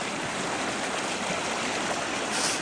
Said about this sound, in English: Walking down to the creek. The waterfalls all along, rushing through the roaring waters.